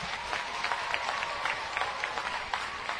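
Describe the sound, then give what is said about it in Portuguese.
An audience applauds the musicians of the Orquestra Sinfônica Goiana, a steady, dense wash of many hands clapping at an even loudness for a few seconds, with no voices rising above it. “Vamos aplaudir os músicos.”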